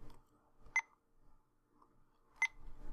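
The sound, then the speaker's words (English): Two short, sharp electronic beeps from a timer being paused for a break, spaced well apart, with quiet background noise and faint rustling in between. “Where's the timer?”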